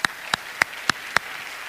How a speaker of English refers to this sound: Take a hand clap break right there.